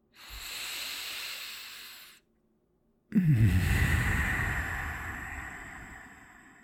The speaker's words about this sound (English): Now, just come on, breathe with me one more time.